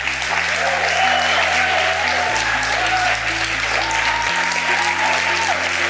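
An audience applauds steadily for about six seconds, a dense, even wash of many hands clapping at a constant loudness with no voices.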